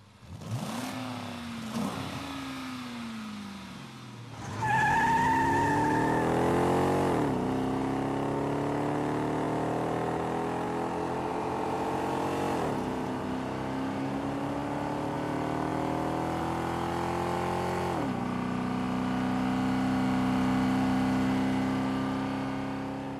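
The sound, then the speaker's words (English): The engine of a Hemi V8 Dodge Charger four-door sedan roars loudly, its deep rumble climbing in pitch through several gear shifts before settling into a steady high-revving drone. No one speaks. “If you are currently driving in a four-door sedan, and you want to know what it would be like to be in a four-door sedan that is also a Hemi V8 Charger, roll up the windows and turn up the radio.”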